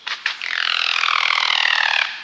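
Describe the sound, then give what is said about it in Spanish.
A black chachalaca, about 60 cm long, sheltering in a bower in the cloud forest of El Triunfo biosphere reserve, whistles and glides while flapping: two quick broad bursts of wing flaps, then a loud, sustained whistling tone with a rough, rapidly pulsing texture that slowly drifts lower in pitch before stopping. “Parecida a un pavo pero más delgada, de 60 centímetros de largo, y como su nombre lo dice, totalmente negra, esta chachalaca se refugia en una enramada. Silba y se desliza mientras aletea. El sonido resultante es maravilloso e incomparable.”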